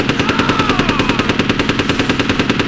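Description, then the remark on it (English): Automatic gunfire as the shooter Bolin fires from the hip, rattling off in one loud, unbroken burst, with rapid, evenly spaced sharp cracks of about ten per second for nearly three seconds. No voices are heard. “Shooting from the hip, Bolin stitched him crotch to sternum.”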